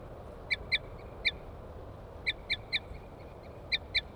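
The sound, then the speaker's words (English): Short, high, bright toots from wild birds, a female tooting and a male chittering on approach as they come down onto a cage, in quick bursts of two or three, repeating with brief pauses, over a steady low rumble of background noise. No one speaks. “Female, toots. Male chitter on approach.”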